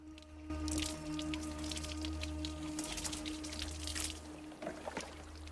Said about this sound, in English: He's carrying a folded dark blue towel over his shoulder and a bucket in one hand. He goes to Ray, sitting at the prow of the boat, and starts to wash her hair, scooping up water from the bucket with a pan.